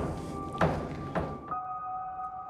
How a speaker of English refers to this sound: I love the noise that the door makes. It's going to bang again.